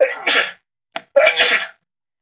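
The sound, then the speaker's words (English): Two loud sneezes, each a sharp noisy burst, separated by a brief pause with a small catch of breath between them. No one speaks. “Bless you.”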